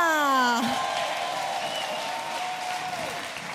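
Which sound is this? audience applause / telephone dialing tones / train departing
audience applause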